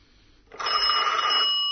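A telephone bell rings loudly and continuously after a brief quiet start, a bright metallic trill with steady pitch that holds for over a second, alone without voices.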